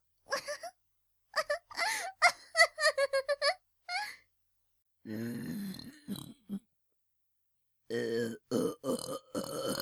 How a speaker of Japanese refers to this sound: 胃の中のザーメンが込み上げて、 えい、 私のザーメンゲップ、お精子のぐっさい匂いがいたしますわ。